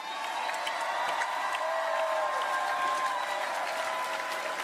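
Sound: audience clapping hands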